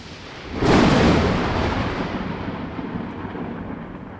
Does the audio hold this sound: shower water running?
no